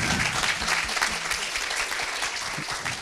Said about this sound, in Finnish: Niin, 50 jos vuotta oli, yhteispeliä, niin, tässä välissä aplodit sille.